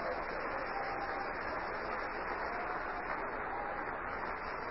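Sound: audience clapping hands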